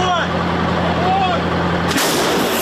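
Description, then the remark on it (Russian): A steady mechanical rumble with a low hum runs until a 155 mm artillery gun near Bakhmut, Ukraine, fires a shell of about 50 kilograms once: a sudden, loud, sharp-edged blast that leaves a harsh, wide roar trailing after it. “155-й калібр. Снаряд около 50 кілограмів.”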